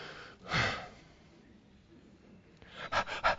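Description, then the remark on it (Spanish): A person imitates a restless dog that is tired of waiting, letting out one long breathy huff, then after a quiet pause a quick series of loud panting puffs. “O sea, estás así con todos los gestos de un perro que ya está cansado de estar en espera.”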